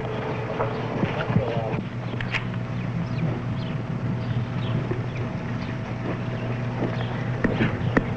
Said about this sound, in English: Here come the horses.